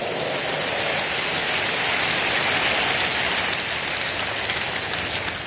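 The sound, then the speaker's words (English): A church audience applauds in praise of the Lord in a dense, steady roar of clapping that holds at an even loudness for several seconds, with no voices rising above it. “Give the Lord a big hand of praise.”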